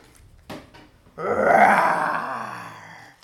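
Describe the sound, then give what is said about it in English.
A voice imitates a lion's growl: a short breathy lead-in, then one long, loud, rough roar that swells and slowly fades over about two seconds. “A lion. He was too fierce.”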